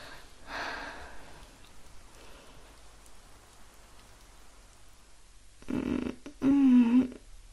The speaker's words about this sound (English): I think I'll listen to some rain sounds on my phone as I sleep. Let's see. Rain sounds. Perfect.